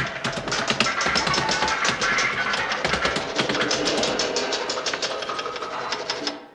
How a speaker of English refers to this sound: We'll seal the main door. Right. Now we'll just nail these boards over.